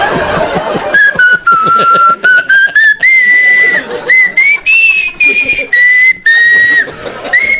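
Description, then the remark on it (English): A clear, loud whistled melody from a recorded album carries a slow holiday tune in sustained, gliding notes, with faint chuckling and laughter underneath at the start. “It's the ….”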